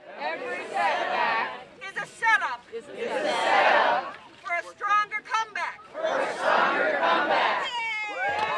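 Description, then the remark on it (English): A large crowd of over 200 people outdoors in a torrential downpour, gathered in a circle around a large basket, roars and cheers in three loud surges, with a single voice calling out to them from a ladder in the gaps between, rallying the gathering. “in a torrential downpour, over 200 people gather in a circle around the basket. … perches on a ladder and rallies the crowd”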